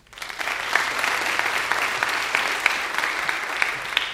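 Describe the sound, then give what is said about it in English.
Sustained applause from a large audience at an awards ceremony as a student receives the Ray Elvin Horst Award for Excellence in Spanish, a dense, steady patter of many hands clapping at moderate loudness with no one speaking over it. “Maybe you should hold your applause.”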